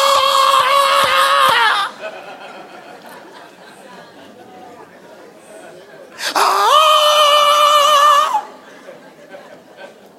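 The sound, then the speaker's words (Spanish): A man belts out two loud, sustained war cries imitating a warrior's battle yell, each about two seconds long with a warbling, yodel-like pitch. The yells are a human imitation, separated by a stretch of quieter background chatter. “Cuando llegue el momento de vocear, va a vocear como Tarzán.”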